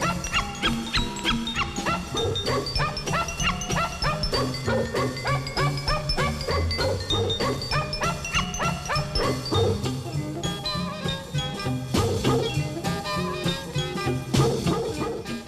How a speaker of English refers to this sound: And, of course, that barking dog means it's time for our doggone report.